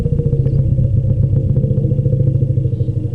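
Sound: elephant call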